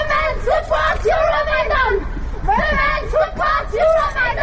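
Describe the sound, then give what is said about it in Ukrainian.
Several voices shout loudly in a rhythmic chant, repeating short bursts over steady background noise: activists of the women's movement Femen in Brussels yelling that Femen supports Euromaidan, at a protest against the Russian president and in support of Euromaidan. “Вони кричали, що «Фемен» підтримує Євромайдан.”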